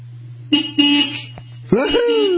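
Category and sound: vehicle, car horn honking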